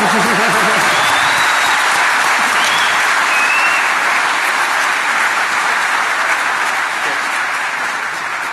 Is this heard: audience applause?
yes